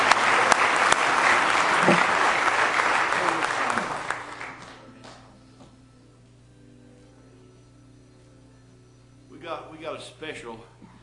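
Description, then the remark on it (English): An audience bursts into loud, dense hand clapping of praise to the Lord that fades out after about four seconds, leaving a low hum; faint voices and stirring follow, with a short burst of talk near the end. “Give Him a real good hand clap of praise tonight if you love Him.”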